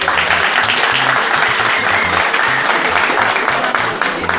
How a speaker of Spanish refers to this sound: Un fuerte aplauso.